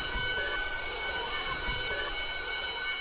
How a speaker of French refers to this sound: La cloche a sonné, la cloche a sonné.